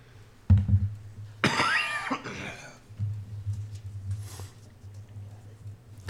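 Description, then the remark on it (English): A few harsh coughs in quick succession from a sick person, rough and throaty, set against a steady low hum and soft background noise. “Does anybody have a cough drop?”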